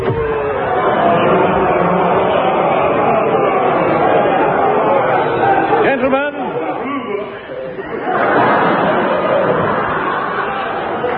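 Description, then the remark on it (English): A crowd murmurs and chatters steadily as it is let in for a furniture auction, many overlapping voices forming a dense, continuous babble, with a brief dip around the middle before the hubbub swells back up. “Quick, stick these auction labels on the furniture and let the crowd in.”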